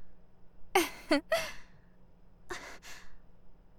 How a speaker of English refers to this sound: You're breathing pretty hard.